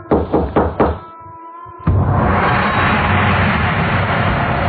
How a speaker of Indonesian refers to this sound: Bentar. Matiin dulu dong musiknya, bentar. Kayak ada yang ketuk-ketuk gitu. Setelah musik dimatikan, barulah terdengar jelas suara ketukan.